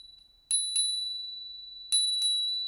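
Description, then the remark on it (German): A small silver bell is struck twice, then twice again after a pause, each bright clear ding ringing on and slowly fading. No voices. “Und weil das Glöckchen so schön klang, beschloss der Junge, es zu behalten und steckte es in seine Hosentasche.”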